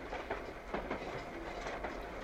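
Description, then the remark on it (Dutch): A small amusement park train at the Efteling rattles steadily along its rails with a continuous rumbling clatter and faint rhythmic clicks, quieter than a real train, for a couple of seconds with no voices. “Ja, maar niet zo hard als de echte trein, hoor.”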